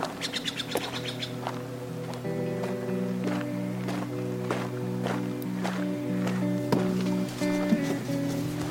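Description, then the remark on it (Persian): Steady footsteps walk toward a car at an even pace under a sustained musical drone, with bright bird chirps at the start; no one speaks. “حاتم میره سمت ماشین.”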